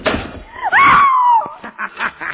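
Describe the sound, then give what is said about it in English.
A loud squealing creak swoops up and down, cut off by a sharp thud as a door slams shut and is locked, followed by a few fainter knocks and rattles. “The door is locked and closed upon you, Shadow.”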